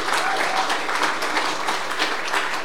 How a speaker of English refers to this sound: All right, let's give them a little word of encouragement, a little round of applause, people.